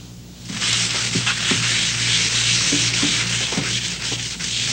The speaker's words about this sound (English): Viva, the towel that's known for its absorbency, is challenging another absorbent paper towel in a different kind of test, scrubbing with an abrasive cleanser.